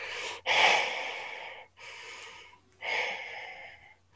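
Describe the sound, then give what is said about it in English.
Heavy, raspy breathing heard over a phone call from an unknown number: three long drawn breaths in slow succession with brief pauses between, loud, over a faint low hum, with no talking. “You hear heavy breathing on the side.”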